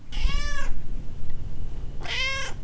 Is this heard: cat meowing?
yes